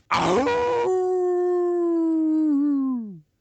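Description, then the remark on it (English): A person imitates a hound dog howl: one sustained, loud howl that opens with a rough, noisy burst, then holds a steady rising-and-falling tone for about three seconds before sliding down and fading out. “So if you would be so kind to, you know, ingratiate us with your best howl, we'll go ahead as we get ready to close out.”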